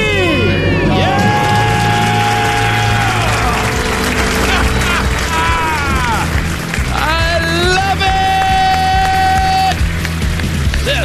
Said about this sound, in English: Count it down. Let's hear a debt-free scream. Three, two, one. We're debt-free!